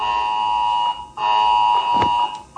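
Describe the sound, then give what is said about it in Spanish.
A loud, harsh mobile phone emergency alert in A Coruña, set to sound at 10 on about 300,000 phones in the city and its area, mainly Arteixo, blares as a steady, buzzing high-pitched tone, broken by a couple of brief gaps before it resumes. No one speaks. “Se calcula que unos 300.000 móviles se van a activar en la ciudad y toda su área, principalmente en Arteiso.”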